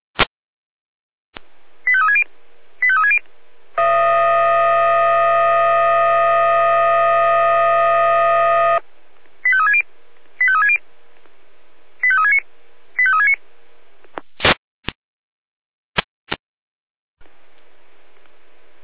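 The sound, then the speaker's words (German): Radio alerting tones from the Jena dispatch centre, in a second alerting attempt, trigger the fire siren of the Orlamünde fire brigade in Germany: pairs of short beeping tone bursts, then a long steady multi-tone wail lasting several seconds, followed by more tone pairs and sharp clicks, with no talking. “Jena, zweite Alarmierung. Florian Orlamünde, zweite Alarmierung.”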